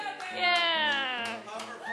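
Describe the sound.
A few sharp hand claps land at uneven intervals, partly buried under a sustained, tonal voice that dominates the short recording.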